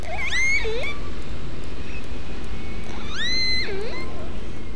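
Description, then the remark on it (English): Two matching resident killer whale calls, one recorded in 1958 and one in 2018, each a burst of squealing, rising-and-falling harmonic tones with a sharp upsweep, separated by a pause, over a steady low underwater hiss. “Listen to how similar this call from 1958 sounds to this recording from 60 years later in 2018.”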